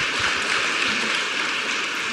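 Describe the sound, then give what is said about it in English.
Steady audience applause, a dense wash of many hands clapping at an even, fairly loud level for a couple of seconds, with no voices over it. “And the fact that my staff felt like they had the freedom to go online on Facebook to customers on our blackboards and make a political stance really is something that I really want you guys to applaud because it's a big deal.”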